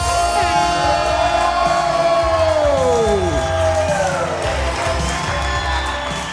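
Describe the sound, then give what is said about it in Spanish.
A loud crowd cheers and applauds a rapper being introduced, without pause, with high whoops and shouts rising and falling over a steady wash of clapping throughout. “Corillo, denle un fuerte aplauso”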